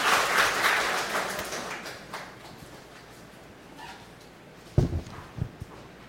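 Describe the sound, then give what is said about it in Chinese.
A crowd applauds, the clapping fading away over the first couple of seconds into quiet, followed by a few short, louder bursts of sound. “我们掌声，谢谢你们。”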